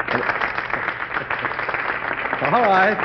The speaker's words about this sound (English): All right. I accept that applause as a tribute to our loyal choir.